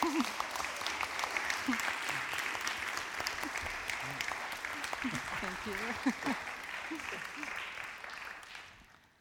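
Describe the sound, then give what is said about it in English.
Sustained audience applause welcoming a performer, a dense steady clatter of many hands clapping for several seconds before fading out, with a man briefly speaking over it. “let's give Reverend … a warm welcome”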